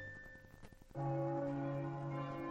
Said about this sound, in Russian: Уже с обеда затрезвонили церковные колокола, которых в Москве неисчислимое множество. Это начались молебствия о неспослании здоровья и долголетия его императорскому величеству и всей августейшей семье.